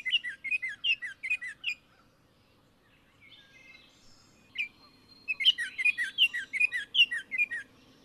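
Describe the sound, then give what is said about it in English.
A Baltimore Oriole, recorded in Maryland, sings bright, whistled phrases in quick runs of rich, fluty notes, pausing for a couple of seconds before another longer burst of melodious song. “This is what a Baltimore Oriole sounds like.”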